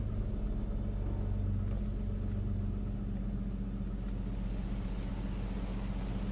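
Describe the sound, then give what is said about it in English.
An old truck's engine rumbles steadily as it drives along a country road, a deep, continuous drone with a low hum running evenly throughout and no voices. “I must admit, the soft seat of this old truck is far more comfortable than my sandals on a country road.”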